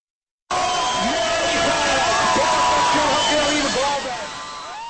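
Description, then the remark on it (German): A large crowd of fans cheers and shouts loudly and continuously after 60 minutes of play, a dense roar of many voices with whistles and excited calls, easing slightly toward the end. They are watching a live broadcast of a Czech ice hockey quarter-final on a big screen at Old Town Square in Prague on Thursday evening. “So ohrenbetäubend war nach 60 Spielminuten der Jubel der Fans, die die Live-Übertragung der Viertelfinalparty am Donnerstagabend vor einem großen Bildschirm auf dem Altstädter Ring in Prag verfolgten.”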